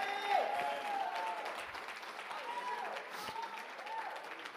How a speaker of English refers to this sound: One more time, put those anointed hands together. Give God a mighty hand clap.